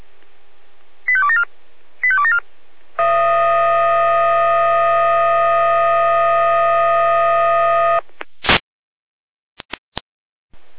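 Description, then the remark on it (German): Two quick bursts of rising electronic beeps, then a loud, steady multi-tone electronic alarm held for about five seconds, ending in a few sharp clicks and short beeps. These are fire brigade dispatch alarm tones for a call to a large oil spill at the L1076 junction toward Frankfurt, with no talking. “Leitschein Alarmruf.”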